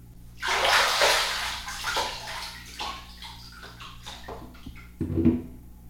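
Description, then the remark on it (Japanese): Bath water splashes and sloshes loudly in a rush as someone gets out of the hot bath water, then trails off into scattered drips and small swishes, with a final low splash near the end. No one speaks. “それじゃあお兄ちゃん、お湯から上がって椅子に座ってね。”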